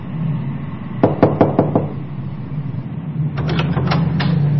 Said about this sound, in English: One night, there is a knock on the door of the apartment he shares with Jay.